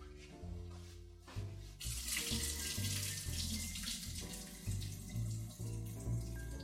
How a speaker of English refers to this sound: So let me go and strain my potatoes now in a colander, and then I'll be back, add them to the pot, and see where we are.